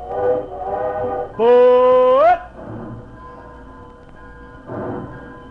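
A train pulling out: a loud, steady whistle blast of about a second that bends upward in pitch at the end, set among low rumbling, chugging noise.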